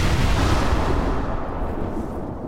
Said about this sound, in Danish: Og jeg hørte braget, da de her krudtladninger, de gik af.